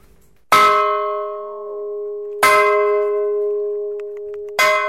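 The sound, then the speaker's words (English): A large bell on the island of Tristan, rung around 4 o'clock on a calm fishing day to tell the fishermen to go out, is struck three times at slow, uneven intervals, each loud clang ringing on with a long, humming, metallic sustain that overlaps the next strike. No voices are heard. “On a fishing day, when the sea is flat, around about 4 o'clock, the dong is rung, so all the fishermen know that it's a fishing day.”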